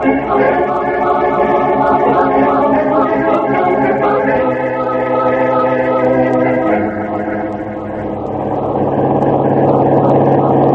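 A car engine drones steadily throughout as the vehicle drives along, a loud continuous hum whose pitch shifts a few times, with no clear speech.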